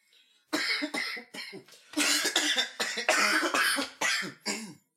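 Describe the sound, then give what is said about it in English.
Several people cough in quick succession, a burst of harsh coughs overlapping and repeating for a few seconds, with a bit of throat clearing mixed in. “Why are you all coughing?”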